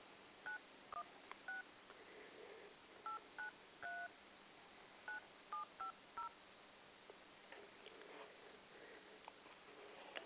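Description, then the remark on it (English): A series of touch-tone telephone dialing beeps, about a dozen short dual-pitched tones in quick irregular bursts, followed by a few seconds of faint line hiss, as a call is placed on another phone line. “I'm going to try reaching her via another line and see how we can make this work.”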